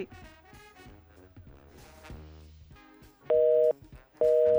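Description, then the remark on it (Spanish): A telephone busy signal, from a phone left off the hook, sounds after a muffled, jumbled stretch: two loud, steady tone bursts with a short gap between them, clear as if heard through a phone line. “Uy, habla de nuevo. Se tiró el teléfono descolgado.”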